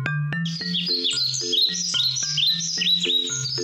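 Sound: birds chirping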